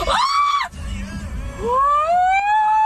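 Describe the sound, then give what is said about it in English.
Women in the street scream in loud, high-pitched bursts as Rizbot, a robot in rainbow gear and a cowboy hat, sprints across the street: a sustained shriek, a short break filled with low rumbling noise, then a rising scream that holds steady over a busy background. “All right, the women are screaming because Rizbot just sprinted across the street to, I guess, after somebody.”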